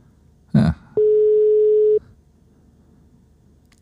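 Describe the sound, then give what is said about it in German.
A brief click, then a single steady telephone ringback tone lasting about a second, followed by quiet line hiss as a phone call to a radio listener goes unanswered. No one speaks. “Mal gucken, ob er rangeht.”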